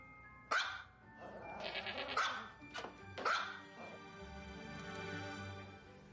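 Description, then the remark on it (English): Goats bleat several times in quick succession in a goat yoga video, loud, each cry sharp and wavering, with a steady murmur of background noise underneath. “That video would be pretty funny with the goat yoga and all if the message wasn't so wrong.”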